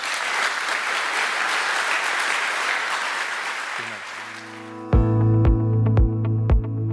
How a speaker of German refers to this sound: ich möchte mich einfach ganz, ganz herzlich bedanken und ich würde sagen, der Applaus zeigt es auch.